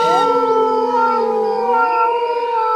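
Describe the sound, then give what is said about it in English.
Long, wavering canine howls, a dingo or wolf-like chorus with overlapping voices rising and falling in pitch, loud and sustained throughout with no talking. “The public reaction in some ways was almost like the howl of a dingo.”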